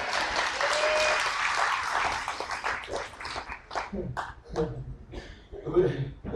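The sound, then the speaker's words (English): A church audience at Thousand Hills Ranch Church claps loudly for a few seconds, a dense wash of applause that thins out and fades as a voice begins speaking over the last scattered claps. “Can I get a better clap than that?”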